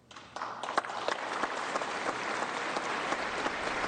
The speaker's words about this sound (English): Feel free to clap along if you'd like.